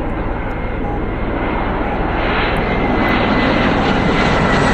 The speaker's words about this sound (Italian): scusate, io mi fermo quando passano gli aerei perché io lo sento molto alto, quindi non ho mai idea se anche voi sentite la mia voce coperta dal suono degli aerei.